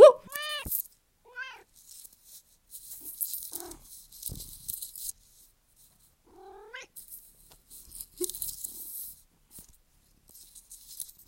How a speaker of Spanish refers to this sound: Saluda. Está enojada. Está enojada. Ya, pero igual se escuchó el miau.